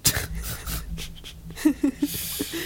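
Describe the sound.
A person mimics eagerly sniffing carrots with a run of quick, breathy sniffs and pants, followed by a few short voiced snorts and grunts, with no talking.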